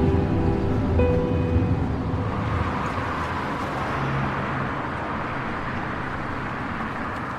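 Steady, broad road rumble from a moving car, as if heard from inside the cabin, continuing evenly for several seconds with no voices and a faint tonal hum at the start.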